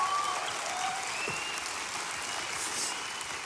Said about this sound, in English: Hey, can we give all three of them a huge round of applause again?